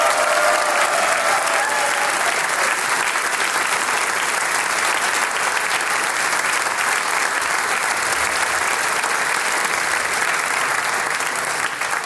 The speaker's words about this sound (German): Schön, dass ihr da seid und einen kräftigen Applaus für unsere Sänger und Musikanten.